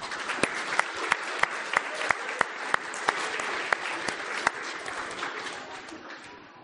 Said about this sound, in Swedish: Vilka fantastiska förskolebarn vi har, eller hur? Och vilken härlig sång och vilket härligt drama. Ja, det var jättebra. Tycker vi ger dem en applåd till.